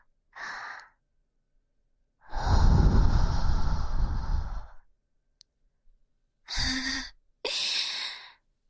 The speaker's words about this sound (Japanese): じゃあ、ほーら、お待ちかねの耳風ですよ。